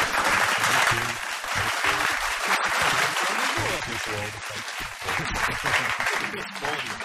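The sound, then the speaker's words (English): Canned applause sound effect played on Triple M radio for comedian Daniel Kitson: a dense, steady wash of many hands clapping, loud and unbroken for several seconds, with a male voice talking over it. “There's some more fake applause for Daniel, if you would.”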